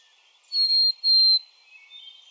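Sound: bird song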